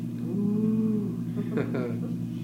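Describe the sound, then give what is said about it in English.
A person imitates the moo a cow makes at feeding time: a sustained, low, droning call of about a second, followed by a shorter breathy vocal burst, with steady low background hum throughout. “And what kind of noises do cows make at feeding time?”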